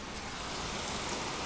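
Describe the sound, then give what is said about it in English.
Hail pelts down in a dense, continuous patter during a freak electrical storm in Normanton, a steady hiss of countless small impacts filling the air with no break. No voices are heard. “You can hear the sound of the hail bouncing down.”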